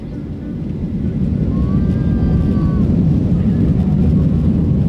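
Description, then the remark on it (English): A loud, steady roar of airplane engines during takeoff as the plane bumps and sways, heard as deep rumbling cabin noise that swells slightly, with a faint high whine rising briefly above it. “The plane bumps and sways during takeoff.”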